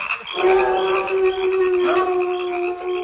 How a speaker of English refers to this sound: I say, will all those prairie dogs never stop howling? They're always howling.